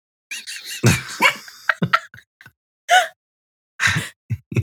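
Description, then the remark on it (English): A dog lets out a series of short, irregular barks mixed with higher whimpering whines, separated by brief silences, with no one talking. “Good job. Go back to bed. I can't with this dog.”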